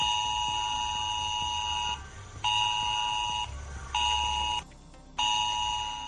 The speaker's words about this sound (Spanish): va a sonar esa alerta del sistema de avisos de emergencia